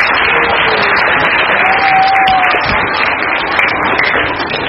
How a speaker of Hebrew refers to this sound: מחיאות כפיים מגיע לנו.